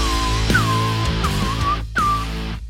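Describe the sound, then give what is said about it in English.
Someone whistles a short, wavering tune in a few phrases, each starting with a quick upward slide, over a steady low background drone with no talking. “Rubbing it in that I can't whistle, is that what it is?”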